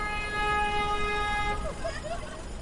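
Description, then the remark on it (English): A taxicab horn blares in one long, steady, buzzy honk lasting over a second, then cuts off as voices chatter over a constant rumble of city street traffic, amid crowds of shoppers and workers and road construction. “I wove my way through crowds of shoppers and workers, through road constructions and the horns of taxicabs.”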